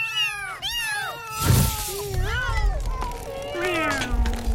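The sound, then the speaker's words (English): Several human voices imitate kittens meowing, overlapping high, wavering mews one after another, fairly loud, with a brief noisy rustle partway through. “Kittens, would you mind?”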